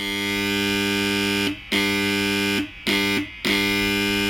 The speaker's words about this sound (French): Voilà, on entend la sirène.